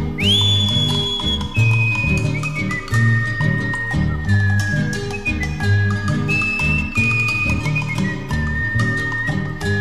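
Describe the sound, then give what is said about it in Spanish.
A person whistles a clear, sustained melody, sliding between long high notes, over steady strummed instrumental music with a rhythmic beat. No one speaks or sings. “me distingue este chiflido porque no nací cantor.”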